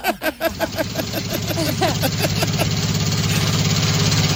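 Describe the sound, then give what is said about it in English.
A car engine sputters and catches after a few sharp bursts, then settles into a steady, rumbling idle with a low, even vibration that stays fairly loud. “That's the car.”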